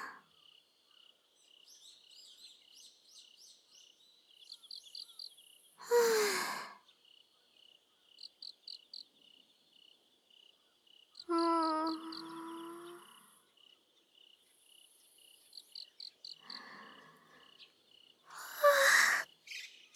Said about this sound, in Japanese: 虫さん泣いてるんだ。早いね。いい音。